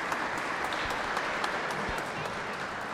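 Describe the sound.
A crowd applauds steadily for about three seconds: a dense, loud wash of many hands clapping at once, with scattered sharper claps and a faint murmur of voices mixed in.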